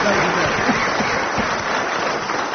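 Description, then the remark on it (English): Sustained audience applause for Graham Garden, who has just won, a dense, steady wash of clapping at an even loudness throughout, with a few voices faintly mixed into the crowd noise. “Graham Garden, let's have a round of applause for Graham Garden.”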